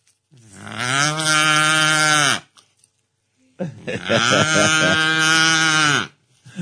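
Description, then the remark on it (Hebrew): A man, a medical clown from Beitar Illit, imitates a cow, giving two long, loud, drawn-out moos separated by a short pause, the second slightly wavering. “בחור שעושה לי קולות של פרה.”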